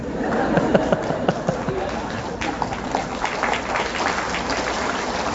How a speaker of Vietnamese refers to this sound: Bộ quý vị đồng ý cho vị này đại diện hay sao mà vỗ tay?